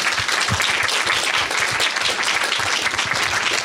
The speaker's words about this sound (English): Two things. First, let's give a great round of applause to our speakers.